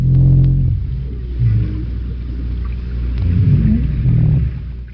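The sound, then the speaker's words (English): Deep, low moans of a North Atlantic right whale, several drawn-out tonal calls that swell and fade, rising and wavering slightly in pitch, over a steady underwater rumble, recorded off Martha's Vineyard, Massachusetts, by the Woods Hole Oceanographic Institution. “Deep moans here. North Atlantic right whale.”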